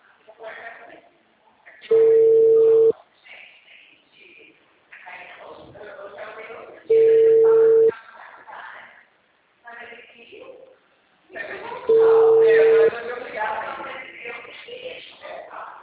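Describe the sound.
A phone line rings three times, each steady one-second tone spaced about five seconds apart, heard through the receiver while people talk quietly in between.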